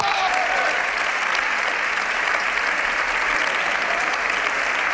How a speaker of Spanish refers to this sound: Iban aplaudiendo, gritaban ¡bravo! A medida que avanzaban los segundos, la ovación crecía. Al final, todos en pie.